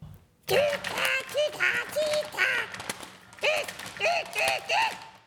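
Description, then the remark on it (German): Pipo, a newly bought pet bird kept in a cage in a flat, screeches and squawks loudly at night, letting out a rapid string of harsh, raspy calls in two bursts with a brief pause between them. “Er kreischte und krakelte so laut, dass die Nachbarn wach wurden und sich beschwerten.”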